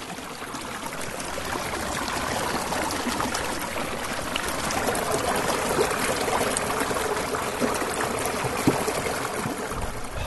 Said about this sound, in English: So relaxing. The sounds of nature are just pleasing to listen to while I hop along the rocks. When the sounds of the creek aren't enough, I put on some chill, cool music to help me mentally drift away even more.